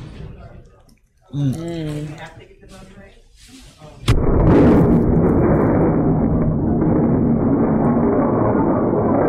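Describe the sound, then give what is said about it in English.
Voices talk briefly, then a sudden loud impact bursts in as a car crashes into a restaurant in Houston, Texas, followed by several seconds of heavy, rumbling crash noise, shattering glass and debris. “Look at the staff going, oh my God, she crashed into the restaurant. Glass everywhere.”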